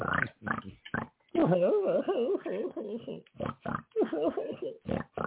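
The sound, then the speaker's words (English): Pigs grunt in short, repeated bursts, broken by longer wavering squeals, loud, filling the whole stretch with little pause. “I got a dime for the jukebox if we want to get away from the pigs and the crying.”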